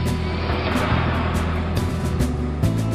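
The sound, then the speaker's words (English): A truck engine, just started with its keys, runs at a steady rumble, its low drone holding throughout with a few brief clicks and rattles over the top. “Found my truck keys, engine on.”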